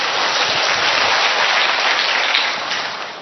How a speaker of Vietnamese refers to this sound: Rồi, một tràng pháo tay thưa anh chị em.